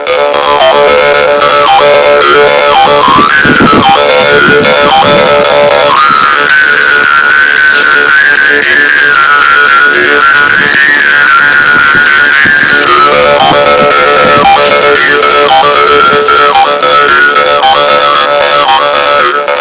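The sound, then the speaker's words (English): A karinding, a Sundanese bamboo jaw harp, plays a loud, continuous buzzy drone, its twangy overtones rising and falling in a wavering, rhythmic pattern for the whole stretch. “Because of that, the tones in Karining instrument did not give a name.”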